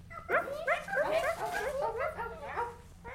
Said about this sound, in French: J'aime bien les bruits des petits chiots.